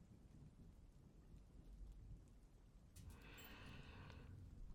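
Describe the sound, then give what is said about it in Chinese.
Steady rain falls throughout with a deep, rumbling undertone, growing brighter and more hissing partway through as the downpour seems to pick up. No voices, just continuous weather noise. “今天下雨，就稍微热一点吧。”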